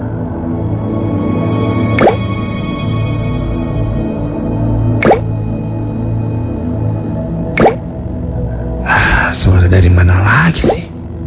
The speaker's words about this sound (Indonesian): Aku lanjut mengetik laporanku sampai aku mendengar suara tetesan air.